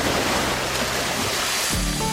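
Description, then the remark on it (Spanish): A steady, fairly loud roar of surf from the Sea of Cortez washes over the whole stretch, with a heavier low rumble of a wave breaking near the end. No voices. “Sea cortés en el mar de Cortés.”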